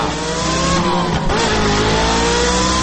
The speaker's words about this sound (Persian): که آقای مسئول بدون اینکه پاسخ او را بدهد سوار خودروی لوکس استانداردش شده، گازش را گرفته